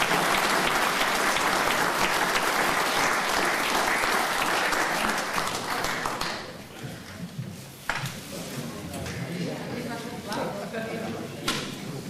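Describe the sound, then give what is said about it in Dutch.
At a council meeting, sustained audience applause for newly sworn-in colleagues, dense and loud for about six seconds, then thinning to scattered claps before fading into low murmuring and a few remaining claps. “Nou, nog één keer applaus voor al deze nieuwe collega's.”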